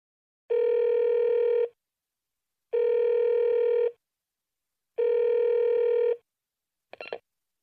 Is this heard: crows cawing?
no